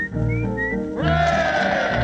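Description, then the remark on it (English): A person whistles an imitation of nightingale song, one of a series of imitations of well-known British birds: short rising high notes, then a fuller, buzzing, sustained warble that holds steady and fairly loud to the end, with no talking. “And the next will be, take your time one moment, the nightingale.”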